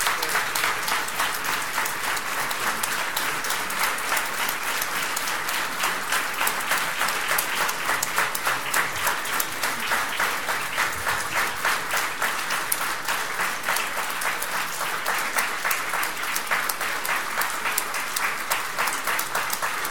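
Sustained audience applause fills the whole stretch, a dense steady patter of many hands clapping at an even loudness, with no voices rising above it.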